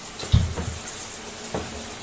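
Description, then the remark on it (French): A tap runs steadily in a bathroom with a bright, continuous hiss of water, broken by a couple of soft low splashes or knocks as someone rinses mud off. “Va dans la salle de bain te rincer, vite.”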